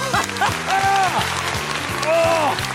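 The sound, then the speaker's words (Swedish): A burst of crowd cheering with whoops and shouted voices rising and falling over a steady wash of clapping, loud and sustained for a few seconds. “Jag tror, bara för att vi ska få lite applåd och jubel här nu i slutet, så tror jag fan med att den här är sann.”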